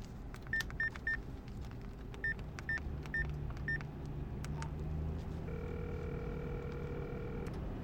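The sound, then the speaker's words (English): A cell phone is dialed: a quick run of three keypad beeps, then four more, followed by a longer steady tone, all over a low engine rumble like the inside of a moving car. “You got a cell phone?”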